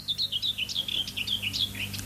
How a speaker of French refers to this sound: Fauvette.